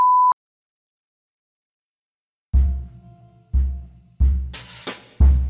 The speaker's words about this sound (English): If this were written only to appear on the page, I might let the slur stand in quotation marks, but as I do not wish to offend or disturb anyone with audio of the spoken word, I will be censoring the racial slur with a beep.